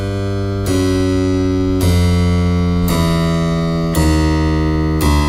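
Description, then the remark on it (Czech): A low piano note is struck five times at roughly one-second intervals, each ringing out loudly with rich overtones, its pitch shifting slightly between strikes as the tuner tightens the string millimetre by millimetre, working on the bass notes of the piano. “Milimetr po milimetru Petr Sakal napíná struny a když vyléčí střední pole klavíru, věnuje se hlubokým tónům.”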